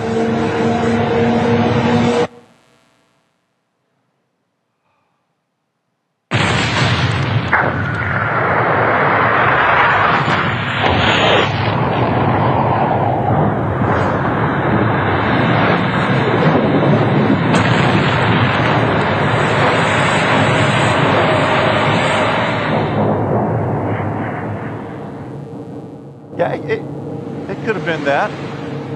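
A sound effect of the Big Bang: after a brief sound and a few seconds of silence, a huge explosion erupts into a long, loud, roaring rumble that sustains for about twenty seconds before fading, with a couple of faint aftershocks.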